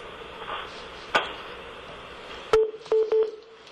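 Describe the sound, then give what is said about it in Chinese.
Telephone keypad tones from pressing the star key: after a faint click, a louder click brings a short electronic beep, followed by two more quick beeps in a row, clear with no talking. “那我们就告诉在线上的朋友，如果您有问题的话，您可以按星号键，您按星号键，您就会被接听到我们的现场啊，请您按星号键。”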